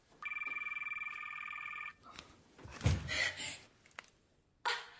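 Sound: cell phone ringing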